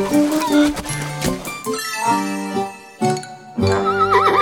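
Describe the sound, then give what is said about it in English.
A horse whinnies loudly, its voice rising and falling in a long wavering neigh, with a brief dip before a final trembling burst. “Horse heard the sheep. Baa! Oh, nay!”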